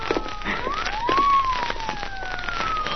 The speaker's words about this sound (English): Yeah, listen. Police car. Yeah, that woman must have called the police, too.